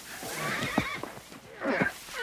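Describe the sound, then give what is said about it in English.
Horses neigh and whinny in alarm, two shrill, agitated calls with a brief pause between, over faint background noise and a hint of shuffling hooves. “The horses are alarmed.”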